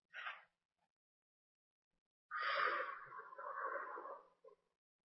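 A quick short intake of air, then after a pause one long, deep, slow breath lasting about two seconds, clearly audible, with no talking.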